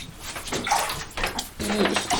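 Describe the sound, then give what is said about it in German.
Water runs and splashes into a bathtub, a steady rushing hiss that swells and dips in uneven surges, fairly loud, with no voices. “Hat sich das Wasser einfach nur verteilt oder läuft dann noch mehr raus?”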